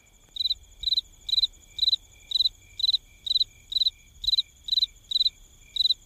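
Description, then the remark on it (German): A cricket chirps steadily in a regular, pulsing rhythm, about a dozen bright trills repeating evenly over a faint low background hum, with no voices present. “Jetzt gibt es sehr langes Grillen.”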